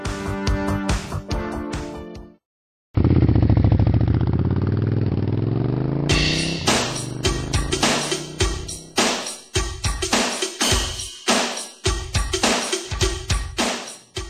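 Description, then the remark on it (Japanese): The engines of two motorcycles lined up side by side under a clear blue sky idle with a steady, loping chug, broken by a brief pause and a rising rev before the uneven putter resumes. No one speaks. “青く澄んだ空、2台のバイクが仲良く並ぶ。”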